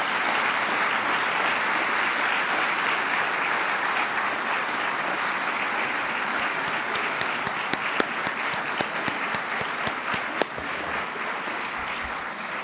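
A sustained round of audience applause for a keynote speaker, steady and fairly loud for several seconds, with a few sharper individual claps standing out near the end as it begins to taper.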